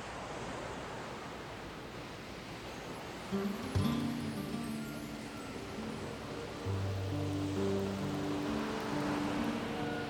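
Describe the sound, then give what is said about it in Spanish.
Steady, rushing wash of sea waves fills the background throughout, and after a few seconds soft sustained music notes rise over the surf and continue to the end. “Sentado frente al mar, me sobrecoge su eterna pregunta, su enigma indescifrable, su insondable misterio, las respuestas que oculta bajo su superficie.”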